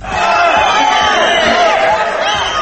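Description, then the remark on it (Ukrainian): A crowd shouts and yells in a loud, continuous clamor, many overlapping voices raised in angry demands with no pause: victims and relatives of victims interrupting a trial held in the sports palace in Bishkek, Kyrgyzstan, shouting that the former president must be punished. “Постраждалі і родичі жертв кілька разів переривали засідання вигуками про необхідність покарання екс-президента.”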